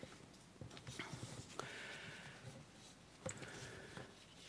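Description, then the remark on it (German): Paper rustling as pages are leafed through, with two sharper swishes of pages turning amid soft shuffling and handling noises, and no one talking. “Ja, ich möchte dann, jetzt muss ich hier ein bisschen blättern, langsam zum Schluss kommen.”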